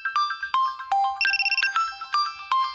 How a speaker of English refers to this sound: All right, my alarm has gone off. I'm awake.